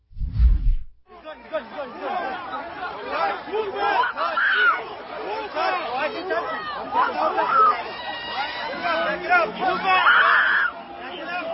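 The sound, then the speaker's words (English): A dense crowd of anti-Israel protesters shouting and yelling at NYPD officers all at once, overlapping voices filling the scene continuously, with louder, higher-pitched screams rising above the din now and then. “In this video, you can hear people screaming at the cops, and they're the people who are attempting to crowd the cops are pretending that they are victims of the police, of course.”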